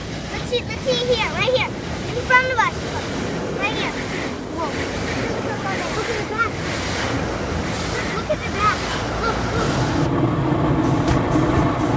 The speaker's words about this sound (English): It sounds like we were in a plane. This just took off. Thank you. That was so great. What do you think? Sitting in the car wash.